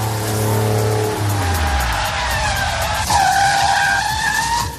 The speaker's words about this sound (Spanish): Frenazo.